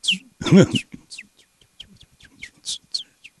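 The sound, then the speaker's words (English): A fake bird chirping sound effect on the Masters golf telecast: a quick series of bright, high chirps scattered across a few seconds, opening with one louder, fuller squawk-like call, clear. “where are the fake birds in the background?”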